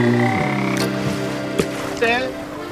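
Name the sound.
frog croaking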